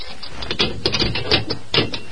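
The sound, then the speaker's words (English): A jail cell's barred grill door being unlocked by Murph: a quick run of sharp metallic clicks and rattles, the key and lock clattering unevenly for about two seconds, with no voices. “They spoke a few words to the guard, and then Murph unlocked the grill door of the cell.”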